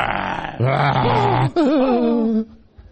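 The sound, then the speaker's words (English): A man's voice imitates a lion's roar with two loud, drawn-out growling bursts, the second higher and wavering, alone with no talking over it. “And Satan roars like a lion, and we're afraid.”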